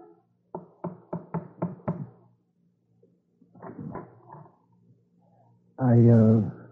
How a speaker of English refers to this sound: I watched him as he stood indecisively for a moment, then tapped the umbrella hesitantly against the door.